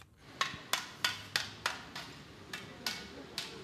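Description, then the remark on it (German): Steady hammer blows ring out about three times a second, sharp metallic strikes over a low background murmur of a busy outdoor construction site in Istanbul, Turkey, on a hot day. “Auf den vielen Baustellen in der Stadt wird weitergearbeitet, vielleicht etwas gebremster.”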